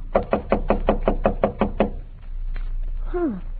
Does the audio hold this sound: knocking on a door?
yes